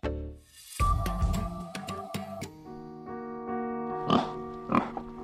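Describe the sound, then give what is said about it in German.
A pig that has escaped in Brussels grunts and oinks in short, rough bursts over a steady, tonal backdrop of stepped notes. Sharp clicks punctuate it, and no one speaks. “Ein Schwein ist entlaufen in Brüssel.”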